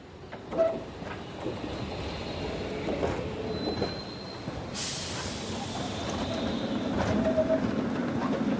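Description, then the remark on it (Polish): A tram rumbles along rails with steady low rolling noise, occasional metallic squeals and a bright hiss midway, continuous throughout, with no voices. “Tramwaje podjeżdżały pod samą stocznię i autobusy, jeden za drugim.”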